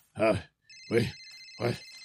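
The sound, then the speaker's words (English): A phone on a nightstand rings with a steady, high electronic tone that starts partway through and continues, while three short bursts of a voice break in over it. “I'll call his number.”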